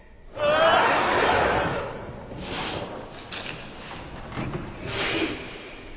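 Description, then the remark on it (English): A single loud, sudden sneeze bursts out with a brief voiced edge, then fades into a few seconds of softer breathy rustling and faint shuffling noise. “Bless you.”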